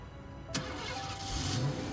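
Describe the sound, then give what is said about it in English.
A car engine cranks and starts with a sharp burst, then settles into a steady rumble that rises as the vehicle pulls away. No one speaks. “He drives away.”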